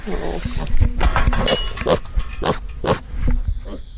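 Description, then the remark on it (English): A sandy-coloured pig with black spots grunts repeatedly, a rapid string of short, rough, snorting bursts in an uneven rhythm, loud and coarse with brief gaps between them. “They make this funny noise.”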